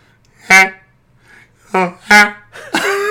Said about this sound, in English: John is honking now.